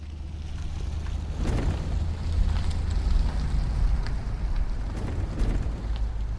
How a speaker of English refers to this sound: Just as with the sound I used for Antonia's truck in earlier chapters, I found this really great truck sound via my trusty old friend, the website freesound.org. I wanted Salvador's truck to sound a little newer and bigger than Antonia's